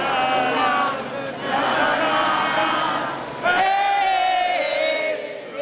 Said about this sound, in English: The Confederate flag is no longer visible at the State House grounds in Columbia, South Carolina. It was taken down today for the final time. A crowd was there to see it happen and to say goodbye.